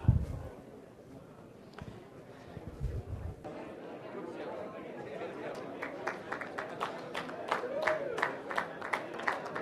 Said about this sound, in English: Now don't forget, as people get healed, the whole group claps. Go for it.